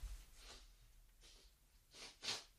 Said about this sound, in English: I feel like I need to wipe my nose. I do apologize for any kind of body-related issues like coughing, sniffing, wiping my nose, any of those sorts of things.